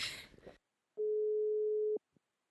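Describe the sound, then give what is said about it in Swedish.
A single steady telephone ringback tone plays for about a second as someone places a call, clear, after a brief burst of noise, followed by a short click. “Vi ringer”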